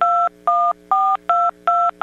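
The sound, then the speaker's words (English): Telephone touch tones being dialed quickly: about six clear dual-pitched beeps in a quick, steady rhythm, each short with brief gaps between, loud with no voices. “Those are touch tones.”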